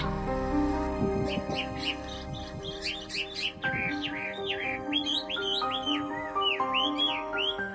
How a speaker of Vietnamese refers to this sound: thì bây giờ chúng mình hãy cùng hòa vào không khí vui vẻ, rộn ràng tiếng chim trong buổi hoạt động trải nghiệm nghệ thuật Lấy tự nhiên, vẽ tự nhiên do họa sĩ Vũ Thị Hiền sáng lập và hướng dẫn nhé.